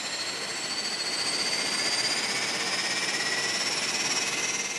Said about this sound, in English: The propellers churn as the crew board the plane.